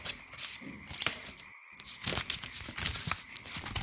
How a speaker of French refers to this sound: Bon. Maintenant, je prends les ciseaux. Et c'est parti.